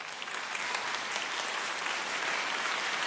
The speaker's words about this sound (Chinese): 有位女士，只要我说得好，她就鼓掌。